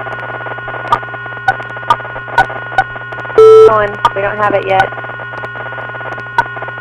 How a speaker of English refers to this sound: But in a pretty strong beep in the background. If you can star 6, if you think that might be your phone.